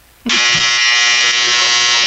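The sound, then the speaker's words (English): A loud, harsh electronic buzzer from a clothes dryer going off starts abruptly and drones steadily without a break, with no one talking. “That's the dryer going off.”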